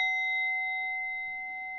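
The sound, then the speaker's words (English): A single bell rings out during a breathing meditation with a clear, bright tone and lingers as a long, steady resonance, fading only slightly, with nothing else around it. “Follow the bell.”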